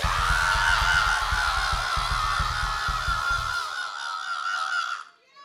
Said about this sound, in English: Now when we ask you all to scream, you need to do the ball-crunching, labia-lashing, blood-curdling yell. Are you with me? Everybody scream!